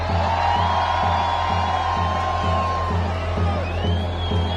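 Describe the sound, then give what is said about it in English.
A crowd screams and cheers continuously over a steady, pounding bass beat, with high whoops and shrill cries rising above the loud, unbroken wash of noise. “Hands in the everybody scream!”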